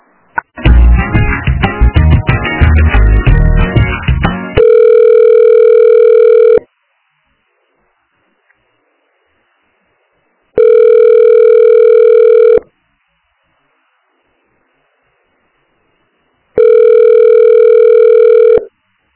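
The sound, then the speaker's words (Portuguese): A telephone line tone during a call transfer: a burst of crackly line noise, then three loud, steady beeps of about two seconds each, separated by long silent gaps, with no talking. “Ela só ela ainda ligar tá no telefone? Deixa eu ver. Não, ela não tá mais. Acabou de sair. Quer que eu passe?”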